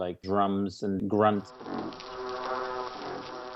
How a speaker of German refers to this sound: Letzterer grunzend in einem Fischchor zu hören, gemeinsam mit einem Riesenzackenbarsch, der wie ein Nebelhorn klingt, und den sanften, aufsteigenden Vokalisationen eines Fledermausfisches.